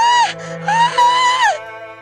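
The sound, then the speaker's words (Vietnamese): A woman lets out two loud, anguished screams, the first short and the second longer and wavering, as if crying out in pain. No words are spoken. “Virginia ức ức hét lên đau đớn”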